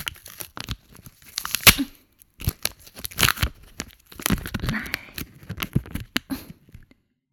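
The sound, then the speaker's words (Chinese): Adhesive tape pulled off a roll and torn in several sharp, crackling bursts, fairly loud, with short crinkly pauses between pulls and no voices. “为了防止你吐出来呢，老娘啊还特地准备了胶带。”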